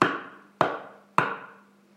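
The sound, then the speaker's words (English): Three sharp, evenly spaced knocks, each a hard percussive hit with a short ringing decay, about half a second apart, with nothing else sounding. “The fright kept her up, and exactly 5 minutes later, she heard 3 sharp knocks.”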